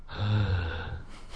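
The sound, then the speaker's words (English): A breathy exhale blown right into a microphone, producing a low rumbling gust with airy hiss that lasts about a second before trailing off into softer noise. “Now you're kind of breathing into it.”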